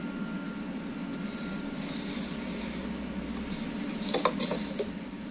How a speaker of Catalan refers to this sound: Doncs fixeu-vos que es queda en blanc, sentim que va doncs, remenant papers, que suposo que no troba el punt on s'ha perdut, i és allò de quedar-se en blanc, que a vegades doncs, també passa, no?